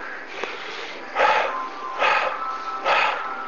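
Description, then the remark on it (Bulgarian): Rapid bhastrika bellows breathing from the chest, in through the nose and out through the mouth: three strong, evenly spaced breath bursts roughly a second apart, each a loud rushing whoosh of air, with no talking. “А сега за малко мини към любимото дишане, бастрика.”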